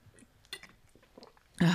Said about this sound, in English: Just let me take one more sip.